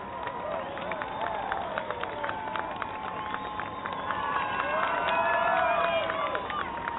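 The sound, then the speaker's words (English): A crowd cheers and shouts continuously over a steady roar of babble, with scattered high whoops and claps rising in a swell toward the end as runners in the Chevron Houston Marathon pass through Houston. “I mean, obviously that was some of our listeners who came out to cheer you on as you were blazing, just a burst of lightning as you flew through the city.”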